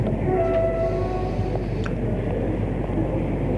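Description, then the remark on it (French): A passenger train bound for Albertville, with first-class compartments, rolls along with a steady, heavy low rumble, faint metallic squeals and high tonal whines drifting over it in the first half, and occasional clicks from the rails. “Elle monte dans un wagon de première classe.”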